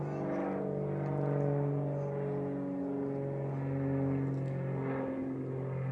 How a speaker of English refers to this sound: I'll wait for this plane to go by real quick here.